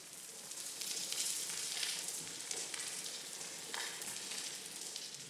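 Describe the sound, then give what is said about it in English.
A degraded coral reef soundscape underwater: a faint, steady crackling hiss like frying, made of dense tiny snaps with no distinct animal calls and no voices. “If you were to go to most coral reefs today, you'd hear something like this.”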